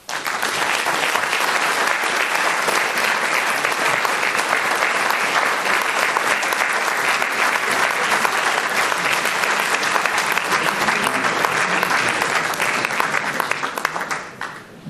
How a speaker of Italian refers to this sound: Allora, credo che questo applauso segni il ringraziamento a Giancarlo Caselli per questa riflessione,